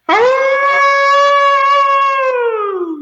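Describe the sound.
A person imitates a hound dog's howl: one loud, sustained vocal tone lasting about three seconds, holding steady before sliding downward as it trails off.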